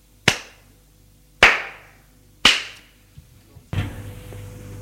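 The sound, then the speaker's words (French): A potter claps her hands: three loud, sharp claps at a slow, even pace, each ringing briefly before fading, followed by a softer clatter and a steady noisy rush. “La potière frappe des mains.”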